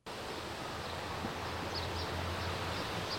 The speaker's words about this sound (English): For a moment, you feel like you're in one of the most rural parts of upstate New York, listening to the serene sounds of birds and insects.